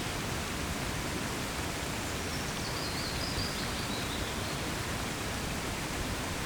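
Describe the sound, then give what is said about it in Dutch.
A steady, dense roar of rushing water from a waterfall, continuing evenly for the whole stretch with no pauses and no voices. “Het water zoekt zijn weg. Altijd in beweging. Altijd stromend.”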